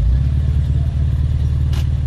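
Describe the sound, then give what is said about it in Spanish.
The engine of a small 600 car chugs at low revs while parking and stalls, a loud, steady, throbbing low rumble with no voices, and a brief airy hiss just before it ends. “Uy, ahí se ha calado. No. Sí. Está aparcando.”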